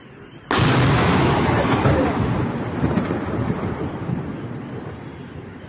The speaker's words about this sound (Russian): А, в дом попали. Во, этот. Сбило дрон, и дрон в дом упал. Реально, дрон.